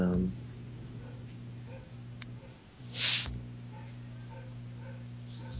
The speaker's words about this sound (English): Yeah, you hear that? I hear dogs. Maybe I should close my window.